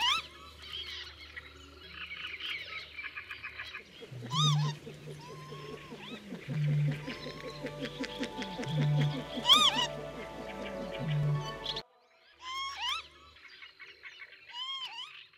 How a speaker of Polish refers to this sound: To jest ulubiony mój ptak. Po prostu przesiedziałem na nim, obserwując tego ptaka. Kiedyś było, był wszędzie właściwie, gdzie były łąki. No to jest ptak wielkości gołębia. Oczywiście samiec lekko się różni od samicy.